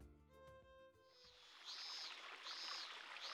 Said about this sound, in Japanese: すぐ目の前が海で山も見え、足元には本当に綺麗な透明の川が流れている、気持ちのいい場所ですね。